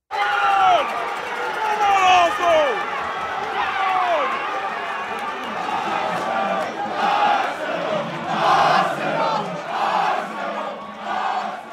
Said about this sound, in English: Instead, I was standing in a crowded bar in downtown Brooklyn, screaming my lungs off for my favorite British soccer team, Arsenal Football Club.